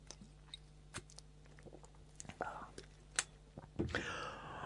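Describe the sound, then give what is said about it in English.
Quiet mouth sounds of someone sipping Worcestershire sauce as a remedy for a tickly cough: small wet slurps and lip smacks, then a breathy, rasping exhale near the end. There is no clear speech. “I'm falling back on an old wives' tale remedy for a slightly tickly cough”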